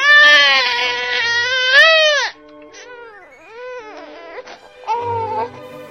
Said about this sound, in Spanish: ¿Y ahora por qué estás llorando